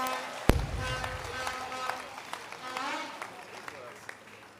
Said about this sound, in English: God bless you so much for your wonderful contribution. Let's clap hands for his wonderful contribution.